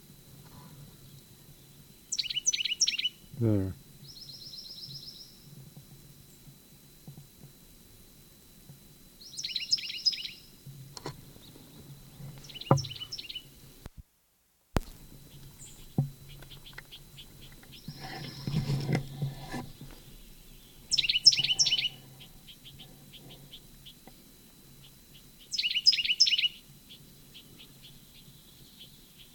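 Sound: bird song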